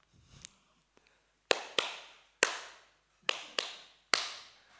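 Six sharp hand claps in a syncopated pattern, a quick pair, a single, another quick pair and a final clap, each with a short ringing tail. A couple of faint taps come first, and no one speaks.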